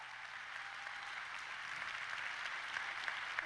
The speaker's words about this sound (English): I'm grateful for the hundreds of people that make all these campuses work. You should clap for that one more time.